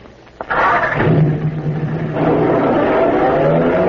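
A car engine catches after a brief quiet moment, then roars steadily and loudly as the vehicle revs and pulls away, with a low droning hum throughout and no voices.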